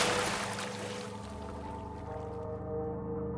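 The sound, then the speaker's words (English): A single heavy splash as a woman's body drops into acid bursts loudly at the start and washes away, leaving a low, steady droning tone underneath. “And as soon as she crosses the threshold, she drops into the darkness and I hear a final splash.”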